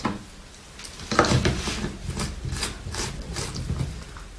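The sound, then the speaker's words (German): A lid is pressed onto a blender jar after water is added: a sharp clack followed by a run of small plastic knocks and scraping clicks, with no talking. “So. Deckel drauf.”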